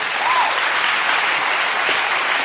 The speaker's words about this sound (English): Give Jesus a hand clap.